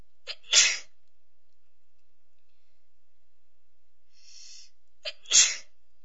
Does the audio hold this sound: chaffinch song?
no